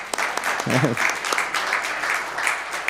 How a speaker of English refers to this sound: I know you don't clap when someone gives a message, but we could do it now, so let's give...